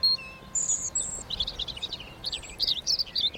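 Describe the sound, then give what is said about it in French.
A European robin sings from a distance in a place with wild berry bushes, a thin, high, tumbling song of short varied phrases and trills that carries on steadily over a soft background hush, with no voices. “Et puis le petit chant merveilleux du rouge-gorge qu'on entend au loin.”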